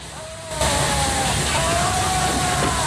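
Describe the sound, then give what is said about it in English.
After a brief quiet start, a loud burst of steam erupts from a tipped-over cauldron of bubbling soup in a kitchen, becoming a steady, rushing hiss that fills the room without letting up, with faint whistling tones threaded through the torrent. “Jack races across the kitchen and shelters from the steam, which fills the room in a swishing torrent.”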